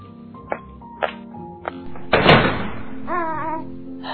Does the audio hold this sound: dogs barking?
no